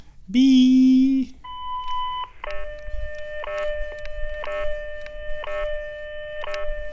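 A WWV time-signal broadcast of Coordinated Universal Time heard over a phone line: a loud, buzzy beep lasting about a second, then steady tones punctuated by short clicks roughly once per second.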